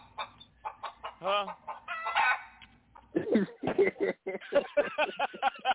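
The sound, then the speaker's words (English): A chicken clucks in a quick, uneven series of short, throaty calls, fairly loud, with a few longer drawn-out squawks mixed in and no talking. “I don't know where the bear is, but I got chicken.”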